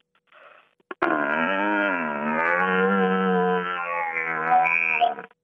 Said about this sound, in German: Also wir hören erst einmal den suchenden Hirsch. Ja. Das übersetzt ins Menschliche würde heißen, hey Girls, wo seid ihr? So ein bisschen sehnsüchtig.